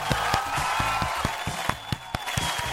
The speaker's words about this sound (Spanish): Este aplauso es de una señora haciendo churrasca. Son diferentes aplausos.